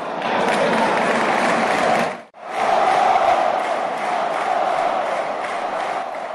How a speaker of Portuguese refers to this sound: É dia de clássico no Estádio do Dragão. O Porto recebe o Benfica e sente o entusiasmo no recinto. Por entre assobios ao rival, não falta apoio à equipa da casa.